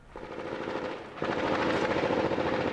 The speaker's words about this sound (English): Gunfire in Sadr City around dawn.